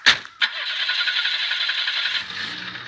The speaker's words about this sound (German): Ein Auto mit einem kaputten Auspuff. Davon fahren nicht viele durch die Gegend.